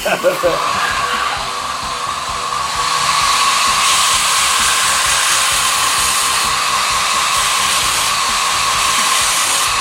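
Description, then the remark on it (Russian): A steady, hissing whir of an abrasive belt grinder with Cubitron belts running at low speed, sharpening an axe and throwing off fine floating shavings rather than dust, with a faint constant hum. The grinding noise thickens and grows louder about a third of the way through, then holds evenly. “На маленькой скорости кубитроны дают вот такую вот стружку.”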